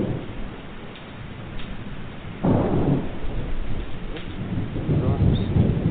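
Heavy rain pours steadily while thunder rumbles in a storm heard in the evening at driving-home time, with a loud crack of thunder midway that rolls on and swells again near the end.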